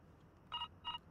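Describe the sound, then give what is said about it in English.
An intercom rings with two short electronic tone bursts in quick succession, fairly quiet over a low background hum, with no voices. “The intercom's ringing.”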